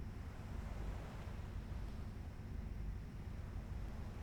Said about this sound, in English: You naturally close your eyes and breathe even deeper, enjoying the gentle sounds of the sea and the warm sun on your face, the breeze playing on your skin.